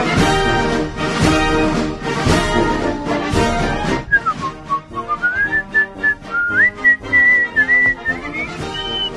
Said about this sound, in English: I'm whistling Dixie